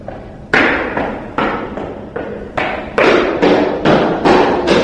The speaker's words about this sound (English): Stomping around the rest area.